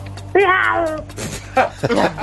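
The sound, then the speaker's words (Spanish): A person vocally imitates a cat attempting to bark: a drawn-out, wavering meow-like whine followed by two short, gruff yelping bursts, fairly loud. “¿Qué sonido crees que haría, y hazme el sonido, un gato que quiere ladrar como un perro?”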